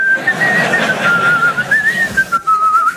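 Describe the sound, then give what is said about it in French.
A person whistles a wavering tune, a single clear tone gliding up and down with short breaks between notes, fairly loud with no one talking. “C'est à quoi on connaît les très très bons? Ils sifflent.”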